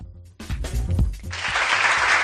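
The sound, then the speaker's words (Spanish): A crowd bursts into steady applause as the Valladolid City Council presents its programme for the Christmas festivities, a dense hiss of many hands clapping at once that swells and holds, with some murmuring or low sounds at the start. “Y este aplauso porque el Ayuntamiento de Valladolid acaba de presentar hace apenas unos minutos la programación para estas fiestas de Navidad.”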